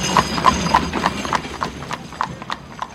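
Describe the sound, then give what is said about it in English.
A horse and carriage clip-clop past on a dark, foggy Baker Street in London over 120 years ago: about ten sharp hoof strikes in a steady rhythm over a low rumble of wheels, loud at first and gradually fading. “Suddenly, a horse and carriage went past and almost hit them.”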